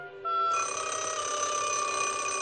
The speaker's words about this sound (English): At night, the ringing phone wakes Susan up, and she hurriedly pushes her sheets off groggily, wiping her eyes.